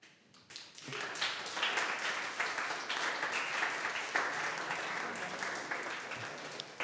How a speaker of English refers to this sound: And, well, some claps.